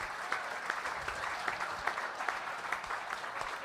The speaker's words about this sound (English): Oh, big round of applause, that was incredible.